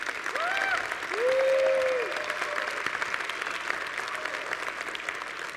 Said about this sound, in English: You never told me this before, so let me hear you clap. Okay, let's have this whole row clap. How about this whole section back here clap? How about everybody in the church clap?